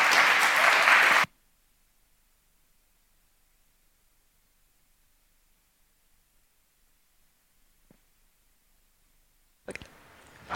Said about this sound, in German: Ja, dann einen herzlichen Applaus und viel Spaß beim Vortrag.